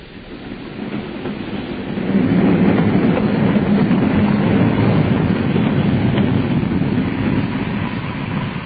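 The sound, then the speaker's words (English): A train rumbles along the rails with a steady low roar and faint clickety-clack, swelling louder after the first couple of seconds and holding steady, with no voices. “We're stopping. Signals, I suppose. This will make us later than ever.”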